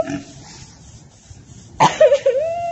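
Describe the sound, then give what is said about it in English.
A pig squeals loudly, a sharp high-pitched squeal followed by a couple of wavering, drawn-out squeals, after a brief low grunting sound and a quiet pause. “And that's the pig, not him, by the way.”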